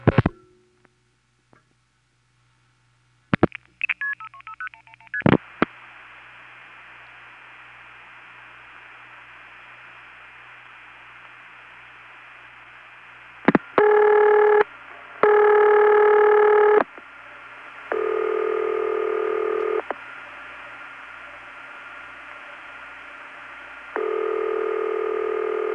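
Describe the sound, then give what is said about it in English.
Clicks and a brief burst of tones open onto a steady line hiss, followed by telephone ringback: a first ring in short broken bursts, then a second ring as longer, evenly spaced steady tones, a Bell System standard ring known as High City Ring. “Well, that second ring is a bell system standard ring.”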